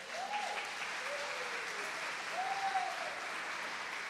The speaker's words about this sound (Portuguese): Vamos aplaudir Jesus!